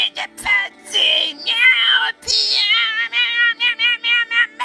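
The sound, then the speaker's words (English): A person imitates a cat, voicing a quick string of repeated meows, loud, first drawn out and then settling into short rhythmic bursts. “Meow, meow, meow, meow, meow, meow. Meow, meow, meow, meow, meow, meow, meow.”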